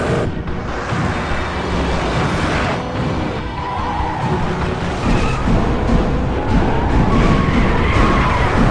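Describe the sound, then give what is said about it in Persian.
A loud, continuous roar of speeding cars in a chase, several cars pursuing one, with tires skidding and squealing in short bursts, dense road noise throughout with no voices. “چند تا ماشین تعقیبم میکنن، نمیدونم از کجا پیداشون شد.”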